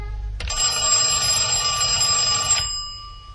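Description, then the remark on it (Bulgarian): A doorbell, rung again in the evening by a visitor at the door, rings in one continuous, loud, buzzing peal for about two seconds, then cuts off, with no voices over it. “Не си отишъл, защото ето, че пак звъни.”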